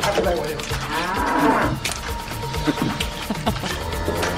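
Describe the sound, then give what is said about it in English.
A cow moos loudly and drawn-out, its low, groaning call swelling near the middle, over a busy, noisy background that continues throughout the short stretch. “Oh, what you gonna moo?”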